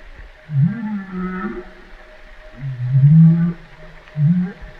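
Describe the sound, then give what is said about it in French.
Low, moaning whale calls rise and fall in three drawn-out phrases, the middle one loudest, with a faint hiss of background noise and no talking. “Ça c'est une baleine qui parle.”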